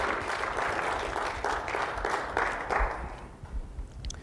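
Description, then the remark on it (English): A church audience claps together for Jesus on a Sunday morning in steady, fairly loud applause with a faint rhythmic pulse, then the clapping thins out and fades over the last second. “Let's give Jesus a good clap offering here this Sunday morning.”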